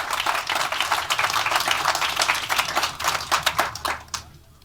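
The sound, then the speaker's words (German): A crowd applauds speakers from Reporters Without Borders as they take the stage for a talk, with dense, continuous clapping at steady volume for several seconds, then the claps thin out and fade away near the end. “Ich freue mich sehr auf Ihren Vortrag Zivile Forensik gegen staatliche Überwachung von JournalistInnen und gebe Ihnen die Bühne frei und ihr gebt Ihnen einen wunderbaren Applaus.”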